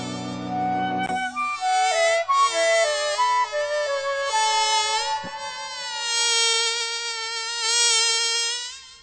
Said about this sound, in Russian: Вдруг откуда-то летит маленький комарик, и в руке его горит маленький фонарик.